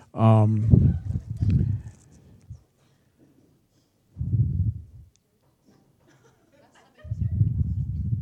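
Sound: birds calling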